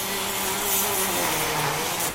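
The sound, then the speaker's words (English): A powered surgical saw, used by surgeon Robert Meagel during a knee replacement operation, whirs steadily for about two seconds, a loud, dense motorized buzz with a faint humming tone underneath, then tails off slightly at the end. No one speaks. “The patient snores, while Dr. Meagel saws.”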